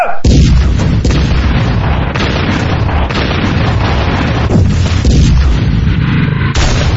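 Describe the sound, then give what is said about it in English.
A thunderous barrage from 20 broadside cannons fired at a captain's command, heavy booms overlapping into a continuous, roaring rumble for several seconds, with a fresh blast near the end. No voices. “At the captain's command, 20 broadside cannons spewed hell's fire, smoke, and brimstone orbs into the air.”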